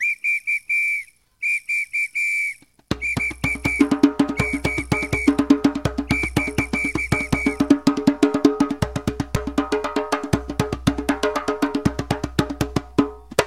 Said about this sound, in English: blowing their whistles, beating old cans with their masks on and with their brooms made from the coconut palm tree